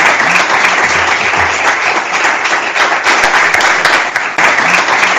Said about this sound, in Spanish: Estos son los aplausos de ese momento.